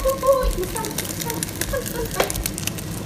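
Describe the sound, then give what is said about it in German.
Steady crackling sizzle of a batter of egg mixed with milk frying in a hot pan. A dense hiss with scattered pops and a few brief tonal squeaks, fairly loud and continuous, with no talking. “jetzt gleich nochmal ASMR von Brutzeln hier.”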